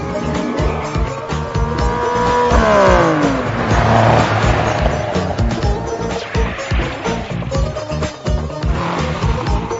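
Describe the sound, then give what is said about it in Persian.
A car engine revs loudly as the vehicle pulls away, its pitch sweeping up and down while tires squeal and skid throughout, a continuous roaring, screeching burst with no talking. “ماشینم، این ماشینه”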